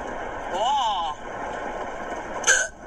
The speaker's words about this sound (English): So here's me and my hiccups the other night.